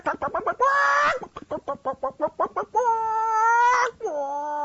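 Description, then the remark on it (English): A human voice imitates a chicken cackling: rapid clipped clucks broken by a few long, strained squawks, loud and close, with no other sound behind it. “You hear chickens cackle?”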